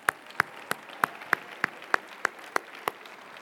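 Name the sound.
audience clapping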